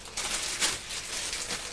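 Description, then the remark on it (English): A woodpecker pecks in a few sharp, irregular taps against a steady hiss of background noise, with no voices present. “Woodpeckers sound like that.”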